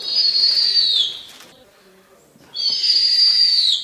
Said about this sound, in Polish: No i można tak powiedzieć, że troszeczkę tych rodziców opiekun zastępuje. Jednak tutaj nigdy nie ma tego momentu, kiedy ptak się w całości usamodzielnia. Stąd ten pisklęcy odgłos.